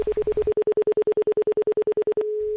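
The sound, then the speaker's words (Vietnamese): A telephone line tone beeps in a quick, even series of about eighteen pulses, then settles into a steady continuous tone, clear with no voices. “Anh gọi cảm ơn người ta đi.”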